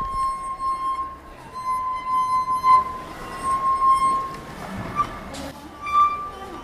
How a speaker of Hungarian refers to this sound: Közben kicsit meg is hallgatjuk. Egy talpas pohárban a vízmennyiség különböző, és ezért egész dallamokat lehet játszani. Hallgassunk is egy kicsit bele.